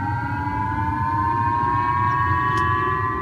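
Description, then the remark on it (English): Emergency warning sirens in the northern region of Hokkaido, Japan, telling people to take cover after a North Korean ballistic missile flew over Japan: a steady siren drones continuously, its tone rising very slowly, over a constant low rumble of background noise. There is no talking. “in Japan, people in the northern region of Hokkaido woke up to sirens and instructions to take cover.”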